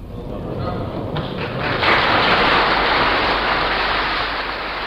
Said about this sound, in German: Beifall rauscht durch den Saal.